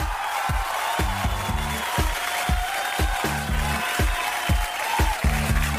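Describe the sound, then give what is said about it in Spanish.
Steady applause fills the space as a dense, hissing wash of clapping, with a thumping rhythmic beat and bass notes pulsing underneath throughout. “Un aplauso”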